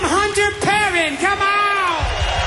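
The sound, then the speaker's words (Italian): A singer's concert crowd cheers and applauds his band's musicians as they are introduced, with a loud, drawn-out whooping shout rising and falling over a steady wash of audience noise and applause that continues throughout. “Giustamente, anche loro hanno la loro razione di applausi.”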